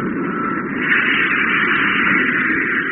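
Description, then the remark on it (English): An aircraft engine cut in for a short burst on low power to gain height, a steady, broad droning roar that swells slightly after the first second and then holds even, with no voices over it. “Then we'll cut in the motor.”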